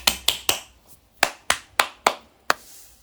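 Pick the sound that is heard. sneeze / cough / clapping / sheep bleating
clapping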